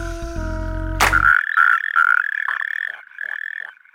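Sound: european tree frog calling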